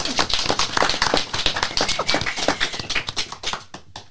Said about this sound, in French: On peut applaudir bien fort les deux équipes gagnantes.